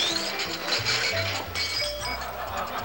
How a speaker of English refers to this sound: The young man starts to lose his grip on the tray. A glass falls.